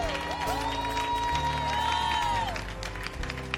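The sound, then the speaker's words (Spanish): A church audience applauds for the Lord in a steady, dense wash of clapping, mixed with scattered cheers and a sustained musical tone rising and falling underneath. “Bueno, sí, se va a dar un aplauso al Señor.”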